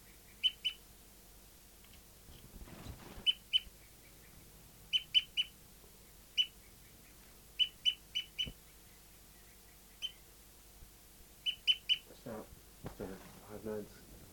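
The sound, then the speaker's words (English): A bird, number 59, toots repeatedly in short, high-pitched clusters of two or three notes while slowing down and approaching other birds, interrupted by a few harsher, noisier bursts of fight calls, mainly by bird 274. “Slowing down tooping now and approaching the other birds. Tooping again, fight calls mainly by 274.”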